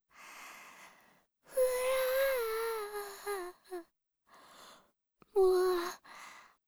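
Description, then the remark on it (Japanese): A person cries late at night after a frightening dream, with breathy sniffles and wavering, wailing sobs in a few bursts separated by short pauses, loudest in the middle and end. “ご主人、泣いてるの？”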